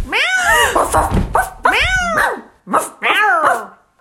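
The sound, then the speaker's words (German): A tabby cat meows and yowls in several loud, drawn-out cries, with a dog's barks and growls mixed in, the two animals sounding off over each other in quick succession. “Der Hund bellte ihm hinterher.”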